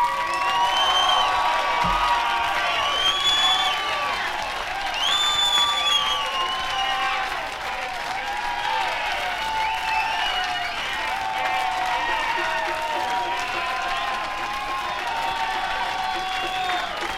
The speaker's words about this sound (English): The crowd's going crazy. I don't think they're going to let him go.